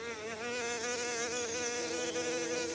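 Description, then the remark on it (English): Bees buzz steadily, a dense droning hum with wavering pitch as they fly around looking for food, continuous for the whole stretch with no voices. “This is what they sound like when they are buzzing or flying around looking for food.”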